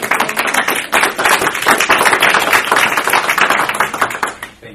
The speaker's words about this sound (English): Can we get a quick round of applause for the Director's comments?